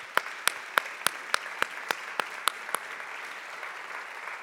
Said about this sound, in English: Can we please give them a round of applause